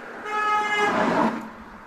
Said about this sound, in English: Somebody honks as he's talking, and he just goes, gah. Like rolls his eyes, like while he's doing the interview, so goes.